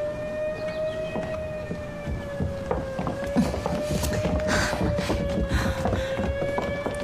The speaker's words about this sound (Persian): ماشین پلیسه؟ حتما یکی به پلیس تلفن کرده.